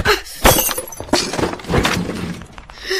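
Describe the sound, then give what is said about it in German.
A small plastic ball, kicked by accident, thuds against a framed picture on the wall and its glass shatters, a loud crash followed by a spray of tinkling shards scattering and rattling for a couple of seconds. “Der Ball ist irgendwie ganz plötzlich aus Versehen gegen das Bild an der Wand gehüpft.”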